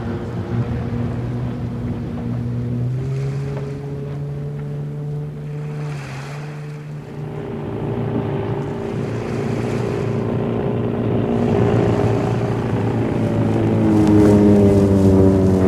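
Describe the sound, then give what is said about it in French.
A motorboat engine drones steadily across water during a chase between two boats, its pitch shifting up and down as it races, with splashing and wind noise underneath and the roar swelling louder toward the end. “Le canot est plus rapide que le sien.”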